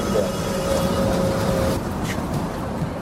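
A city bus idles with a loud, steady engine rumble while a thin mechanical whine runs for a couple of seconds and then cuts off, as a paraplegic wheelchair user boards for a ride from Tukwila to the South Downtown neighborhood in Seattle.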